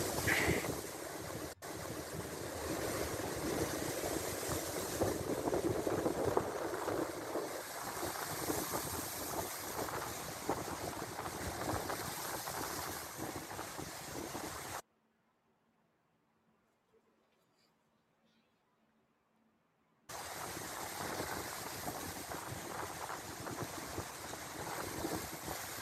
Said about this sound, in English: Someone recorded some strong wind and waves in the Sea of Galilee. 有人记录了加利利海的一些强风和海浪。